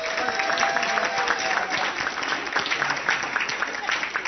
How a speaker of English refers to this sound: Please stand, all team captains. A big round of applause.